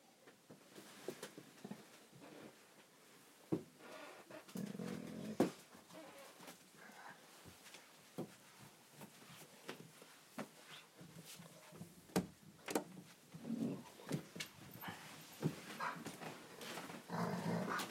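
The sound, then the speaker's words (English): A dog growls with a toy clamped in its mouth, muffled rumbling bursts broken up by sharp clicks and squeaky chewing noises, no voices. “He's got a toy in his mouth. Sounds like a wolf, doesn't it? Or a fierce dog. But it's not.”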